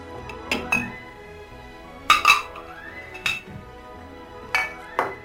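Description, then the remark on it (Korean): Dishes and cutlery clink together in a series of bright impacts as small pots, fine Japanese porcelain, knives and spoons are set out for preparing a meal, with several sharp ringing hits spaced irregularly over a few seconds. No one speaks. “앙증맞은 냄비와 일본산 고급 도자기, 칼과 숟가락, 포트, 강판, 찜통, 그 밖에 금과 은으로 된 도구를 내왔다.”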